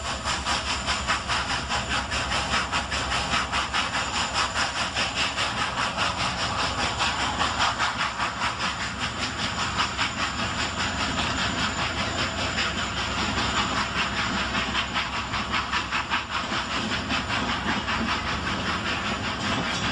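A steam train rolls steadily along the rails, a constant loud hiss and rumble with a faint rhythmic clatter running through it for the whole stretch, with no voices.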